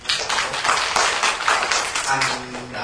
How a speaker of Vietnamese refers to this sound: Xin cảm ơn, cho anh một tràng pháo tay.